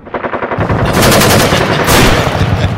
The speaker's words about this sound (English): Could I have another gunshot, please? Could I please have another gunshot? Would you just direct that over this way to the big guy in the blue shirt?